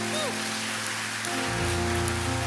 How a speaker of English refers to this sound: Let's give God one hand clap of praise before we sit down this morning.